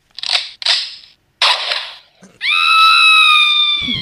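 Three sharp, noisy bursts like toy gunshots ring out, then a person lets out a loud, sustained, high-pitched scream that holds steady for over a second before cutting off.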